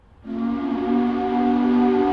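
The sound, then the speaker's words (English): A loud factory shift change whistle at Corning Incorporated, a glass maker in Corning, New York, blasts in at once and holds a steady, multi-toned chord without pausing, piercing, with no voices over it. The whistle sounds four times a day. “The shift change whistle still sounds four times a day in Corning, New York.”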